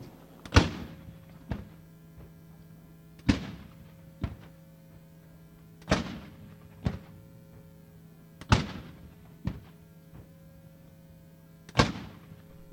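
Ceremonial cannon fire booms out in a steady salute at the National World War I Centennial, April 6, 2017, at the National World War I Museum and Memorial in Kansas City: five heavy blasts roughly two and a half seconds apart, each followed by a softer echoing thud, over a constant low hum.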